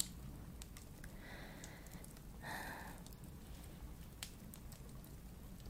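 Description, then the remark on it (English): Soft, irregular crackling of an electric fireplace in an apartment, scattered faint pops over a low steady hum, quiet with no voices. “It even makes that crackling sound.”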